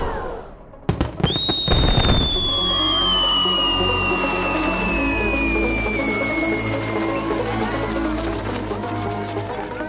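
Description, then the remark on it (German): A 50-shot fireworks battery: a few sharp bangs at the start, then a long, loud whistling tone that slowly falls in pitch over a steady crackling hiss that lasts to the end. “Ja, und wie viel Müll wollt ihr noch so in die Luft ballern?”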